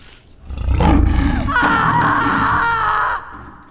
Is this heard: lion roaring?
yes